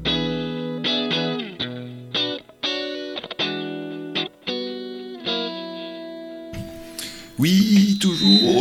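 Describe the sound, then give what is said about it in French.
Heavily distorted electric guitar chords chop in short bursts, then a steady audio feedback (Larsen effect) whine rings out and sustains before a harsh, noisy squeal of distortion takes over at the end. “du Larsen, toujours du Larsen dans Frisson sur Canal B”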